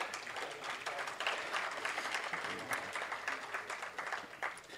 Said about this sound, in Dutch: Applaus.